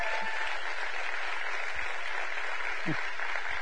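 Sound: audience round of applause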